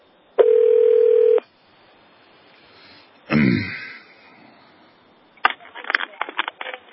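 A phone line sounds a steady electronic tone for about a second, followed by a short rough burst and then a quick run of clipped beeps and line noise, clear, as a call is placed to the main number of the Department of Homeland Security.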